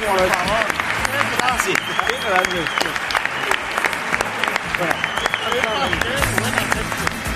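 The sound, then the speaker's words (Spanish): A crowd applauds steadily for several seconds at a live concert in Elche, dense overlapping claps with voices and cheers mixed into the sustained ovation. “Un aplauso para esta chica.”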